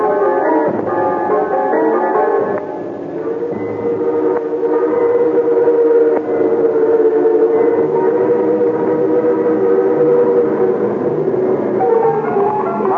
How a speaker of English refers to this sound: The train rushed on at an awful pace, and sulfur fumes burned hand and face. Wilder and wilder, the country grew, faster and faster the engine flew.